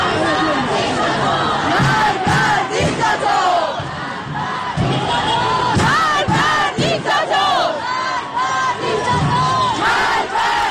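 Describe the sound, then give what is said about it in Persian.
A large protest crowd in the streets of Tehran, Iran, shouts and chants together, many voices overlapping in loud, rising cries with rhythmic bursts of yelling that stay dense and continuous throughout. “در تهران تجمع‌های اعتراضی در شهرک غرب، شهرک سپهر، قلهک، گیشا، بلوار فردوس، سعادت آباد، نارمک و خیابان‌های ابازر، شریعتی و ولیعصر برگزار شد.”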